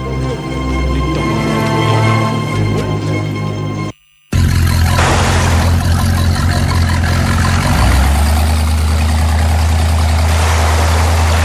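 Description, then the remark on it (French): A loud engine runs with a steady, low droning hum, cuts out for a moment, then returns as a harsher, roaring rumble as people use it to flee pursuers. No one speaks. “Avec le moteur, nous allons les distancer.”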